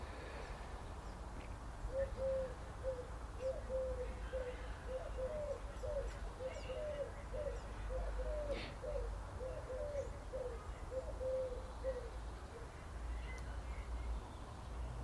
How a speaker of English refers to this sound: Sun's out. And we have pigeon call. You know, so used to that here.